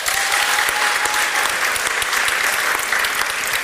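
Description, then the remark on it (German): An audience claps to vote yes on whether science will defeat death, with dense, continuous applause made of many overlapping hand claps at an even loudness throughout, and no voices standing out. “Einmal in die Hände klatschen für ja.”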